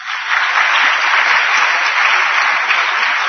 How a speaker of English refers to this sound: Well, I was happy that more than one person clapped now, okay?